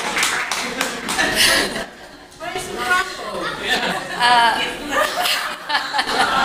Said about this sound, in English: So I think that deserves, thank you, Amelia. A round of applause.